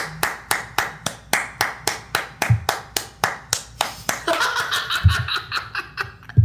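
Audience applause starts as steady, rhythmic claps about four per second, then grows denser and more scattered, with some laughter mixed in.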